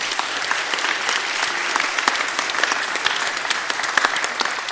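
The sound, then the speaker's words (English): A crowd claps steadily for several seconds, a dense, even patter of many hands with scattered sharper claps standing out, no voices. “And I think we ought to give them all a round of applause for being a part of that.”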